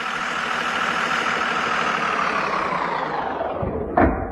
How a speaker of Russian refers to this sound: и тут подошел автобус.